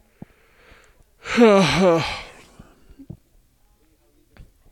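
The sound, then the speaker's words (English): A single drawn-out yawn on a hot, sunny day, fairly loud, its voiced tone wavering and sliding in pitch for about a second before trailing off, with faint clicks and quiet rustling around it. “I'm yawning.”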